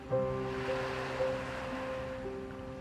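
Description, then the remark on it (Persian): Ocean waves wash in a steady, hissing roar with a few gentle swells, accompanied by a faint, constant low hum, played when an ocean image is put on. No voices are heard. “تصویر اقیانوسو بذار.”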